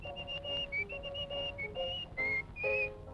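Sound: human whistling a tune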